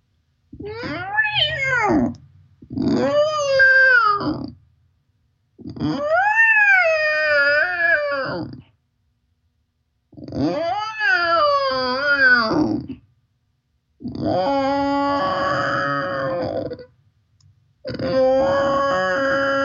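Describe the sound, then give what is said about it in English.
Six long, wavering moans rise and fall in pitch, each a couple of seconds long with short pauses between, as voices imitate whale calls, fairly loud. “So let the whales come through you now.”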